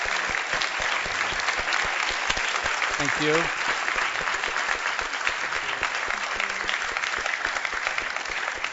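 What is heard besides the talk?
audience applause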